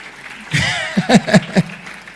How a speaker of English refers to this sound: Can you clap for Jesus so that